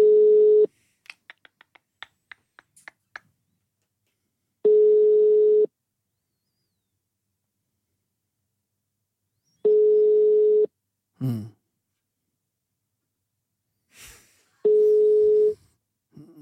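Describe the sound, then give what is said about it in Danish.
A steady telephone ringing tone of an outgoing call sounds four times, each burst about a second long with long silent gaps between, preceded by a few quick clicks and faint handling noises; the call then goes to voicemail. “Personen, du har ringet til, kan ikke besvare dit kald.”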